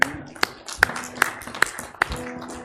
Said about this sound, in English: Amen. Y'all don't know where to clap.